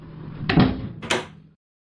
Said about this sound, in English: quickly, and lock the door behind you.